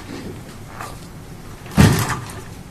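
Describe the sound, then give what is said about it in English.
A plastic trash can is handled, giving one sharp hollow clunk and brief rattle partway through, against a quiet hum with no talking. “If I could, can I see the trash can for just a second, please?”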